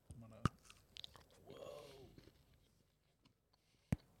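Close-up crunching of Fruity Pebbles breakfast cereal being chewed into the microphone for a mukbang: two sharp, loud crunches near the start and end, with softer munching and mouth noises in between.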